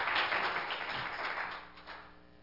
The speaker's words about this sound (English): Give another hand clap for Jesus, if you would.